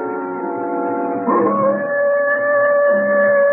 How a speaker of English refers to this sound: That wolf again. You think that wolf killed Mrs. Brady? That's what it looks like, doesn't it?